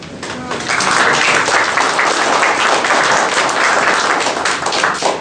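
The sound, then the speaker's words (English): A steady burst of audience applause at a division meeting, many hands clapping densely and loudly for about five seconds with no break, a bright crackling texture throughout and no voices standing out. “Well, he needs another round of applause.”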